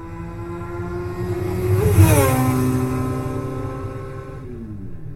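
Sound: motorbike engine revving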